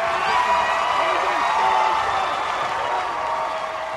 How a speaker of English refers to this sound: This time around, it's a crowd of Brother Rice orange that's rushing the court.